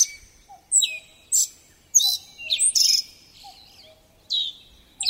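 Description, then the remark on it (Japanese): A male black-faced bunting sings a series of bright, buzzy chirping phrases in short bursts separated by brief pauses, clear, over a quiet background with faint insect-like ticking; he sings in summer from a larch branch in a misty mountain forest in the morning. “この青地は前日もカラマツの同じ枝でさえずっていました。”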